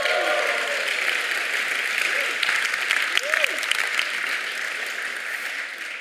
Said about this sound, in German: Hallo Balingen und Reutlingen, komm mal einen richtig fetten Applaus nach Balingen.